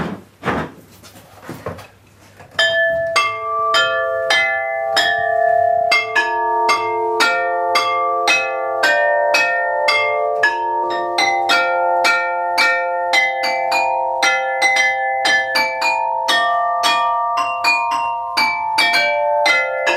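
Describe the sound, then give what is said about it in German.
Carillon bells ring out a steady miners' march melody, bright struck tones following one another in a regular rhythm and ringing on, loud, with no voices. “Ja, kurz das Glockenspiel mal. Ich spiele es auch bloß mal kurz an, weil auch die Kirchenglocke gleich vorläuten wird.”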